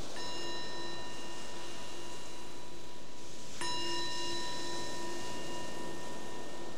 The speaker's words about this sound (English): So we'll begin by having the bell invite us to let go of whatever's happening before and be right here, right now.